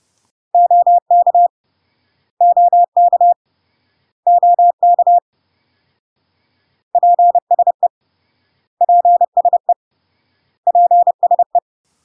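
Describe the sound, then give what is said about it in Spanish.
Morse code tones spell out the often-heard abbreviations OK three times, then PSE (please) three times, as crisp, steady-pitched beeps in evenly spaced groups, clear and loud with silence between and no voices. “OK y PSE, para pasar eco, vamos a escuchar ambos tres veces más.”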